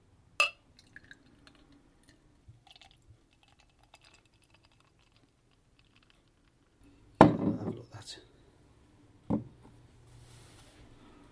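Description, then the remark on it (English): Near-silence with faint clicks and small drips, then a short splashing burst of dark beer pouring into a Guinness glass lasting about a second, followed by one more brief splash. “So, I'm going to get my best Guinness glass out. I always like to have more beer out of a glass.”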